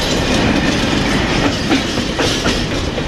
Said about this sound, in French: Vous avez là à gauche un train qui est chargé de conteneurs qui partira ce soir à 19h30 à destination de Lyon.